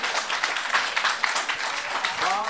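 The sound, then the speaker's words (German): Sustained applause from an audience, a dense wash of many hands clapping at steady loudness, with a voice starting to speak faintly near the end. “Nog eens applaus”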